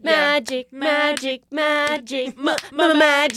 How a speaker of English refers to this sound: And the part where they start clapping.